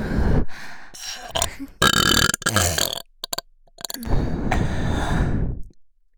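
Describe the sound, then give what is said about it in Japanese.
A string of loud, exaggerated burps, several short guttural bursts separated by brief pauses, then one long, drawn-out belch that trails off. No talking. “オナネタ確定のエロゲップ 行きます。”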